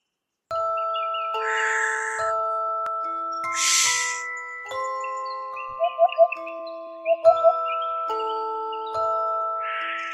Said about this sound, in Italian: Ma che cos'è questo verso che sento? È un upupa, tesoro. Un upupa? Ma non è un uccello notturno? No, amore. È un uccello diurno.